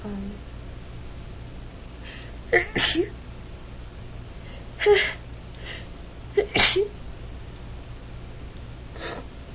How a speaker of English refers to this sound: It's been really weird because I've been like sneezing when I go outside and it's not. It's not really like a normal type of thing.